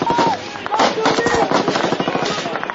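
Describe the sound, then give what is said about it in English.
Rapid bursts of loud gunfire crackle continuously, with several brief whining streaks of rounds ricocheting off concrete cutting through the din and faint voices mixed underneath. “Rounds bounced off the concrete around us, making a whizzing noise as they ricocheted back into the air.”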